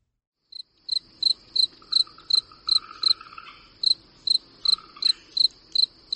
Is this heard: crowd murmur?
no